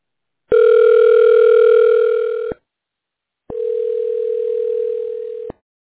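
A telephone ringing tone on a call to DKI RestoTech sounds twice, each a steady, buzzing mid-pitched tone lasting about two seconds, separated by a short silent pause. No voices are heard.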